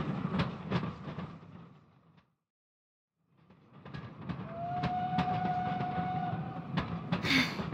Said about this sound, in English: Run, Flash! Run and stop the train! Okay! Stop! Stop the train!